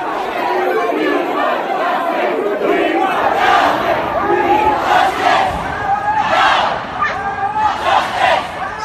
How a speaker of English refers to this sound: We stay in London now, and cries for justice, the sound of furious protests near the charred remains of the Grenfell Tower.